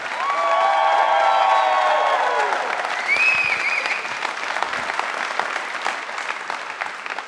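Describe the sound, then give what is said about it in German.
The audience of the live show Gut abgehangen live in Menden applauds loudly and steadily, with a few whistles and cheers rising above the dense clapping early on before it thins slightly toward the end. “Weil mit nach so einem Applaus besser wird's nicht mehr.”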